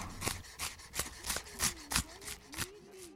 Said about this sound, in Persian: خب پیازا رو خورد میکنیم.